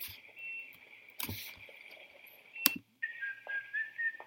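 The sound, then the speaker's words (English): A whistled theme tune played back: a long, steady high note, a short break, then a lower wavering phrase. A couple of brief rustling bursts cut across it, and no one speaks. “It's like a Western kind of thing. Oh, is that one? It's like Kill Bill. I'm going to put quite a few. I'll put whistle.”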